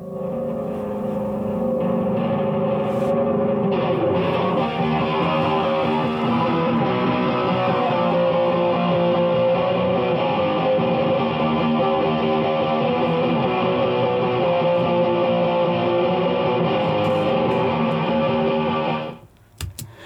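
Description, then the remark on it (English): A steady, dense wash of distorted, reverberant tone from overdrive and reverb effect units, played through speakers in a room and picked up by a microphone, sustains for about nineteen seconds, thick with layered harmonics, then cuts off abruptly near the end. No one speaks over it. “So this is the overdriver and the reverberation machine.”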